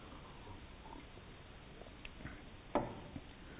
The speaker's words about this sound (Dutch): Eerst slokje water.